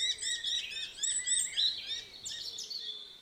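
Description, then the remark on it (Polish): Shrill, high-pitched kestrel calls repeat in rapid, overlapping series of sharp notes for about three seconds, fairly steady in loudness, with no voices. “Ich wołanie jest piskliwe i często słychać je w pobliżu gniazda.”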